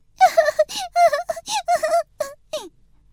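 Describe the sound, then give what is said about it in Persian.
A voice imitates a snail crying, with a string of short, high, wavering wails broken by brief pauses, fairly loud, ending in a falling whimper. “اما به نظر حلزون خیلی دور بود و دوباره زد زیر گریه.”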